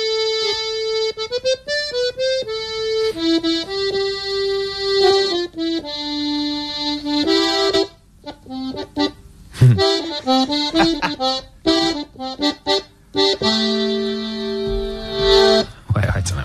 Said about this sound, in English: It's a well-known song. He's playing it on the accordion. Can you tell us what it is?